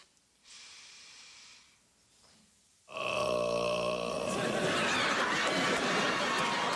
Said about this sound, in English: So what am I supposed to do? It's no big deal. Just suck in some air and burp it out.